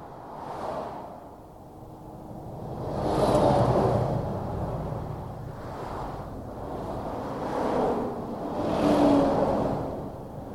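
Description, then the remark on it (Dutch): Cars rush past one after another on a busy road, part of the N35 in Nijverdal, Netherlands. Each swells into a loud whoosh and fades, about four passes in ten seconds, over a steady traffic rumble with no voices. “Regelmatig moet dit gedeelte van de N35 uren volledig worden afgesloten vanwege ongelukken met botsende auto's.”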